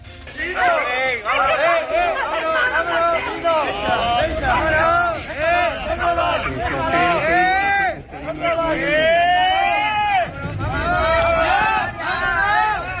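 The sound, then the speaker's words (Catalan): A crowd shouting and yelling over one another in continuous, chaotic overlapping voices, some raised to high-pitched cries, loud throughout with brief dips before swelling again. The shouts come from attackers, victims and people calling for peace during an assault by a hooded group on CDR members at Neptú beach in Canet de Mar, where yellow crosses had been planted. “Els crits es barreja els agressors, els agredits i gent que demanava pau.”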